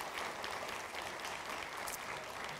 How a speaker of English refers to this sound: I thank God for those of you who have been involved in those two ministries of life. And I'd like everybody to applaud those who have been involved with that.